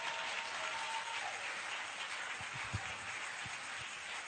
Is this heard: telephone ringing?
no